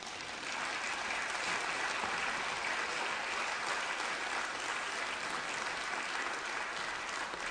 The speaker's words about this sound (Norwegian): Hør på den applausen du får på vei opp.